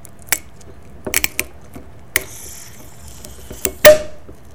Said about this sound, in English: I'm twisting a cap on a plastic cork.